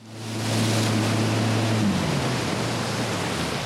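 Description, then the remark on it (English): A Mastercraft X24 wake surfing boat on Lake Minocqua on a late July morning: its engine drones low and steady beneath a loud, broad rush of churning water; the engine's tone drops away partway through while the wash keeps roaring. “head out on the waters of Lake Minocqua in a Mastercraft X24.”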